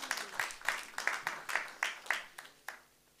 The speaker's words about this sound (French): D'accord. D'accord. Un aplauso al Señor. Applaudissez le Seigneur, si vous êtes d'accord.